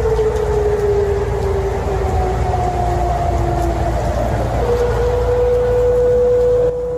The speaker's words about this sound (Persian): به دنبال پخش صدای آژیر قرمز در غرب تهران، مقام‌های حکومتی با تأخیری حدوداً یک ساعته با اظهاراتی ضد و نقیض دلایل متفاوتی برای به صدا درآمدن آژیر خطر اظهار داشتند.